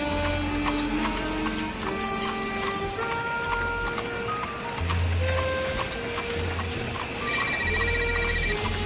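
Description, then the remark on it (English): A cell phone rings with a busy electronic melody of shifting tones, loud, playing continuously the whole time with no one talking. “Your cell phone's ringing.”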